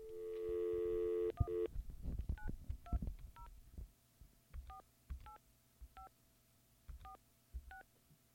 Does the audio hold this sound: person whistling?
no